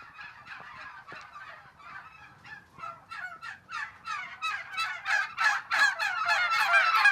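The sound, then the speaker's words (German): A huge flock of turkeys on a turkey-breeding farm of the firm Geflügelgourmet near Gossau in eastern Switzerland gobbles in a dense, overlapping chorus of rapid warbling calls that grows steadily louder and busier as they run toward the listener, with no talking. “Ein riesen Schar von Truthähnen rennt im Keg auf mich zu und begutachtet meine Gewunderung.”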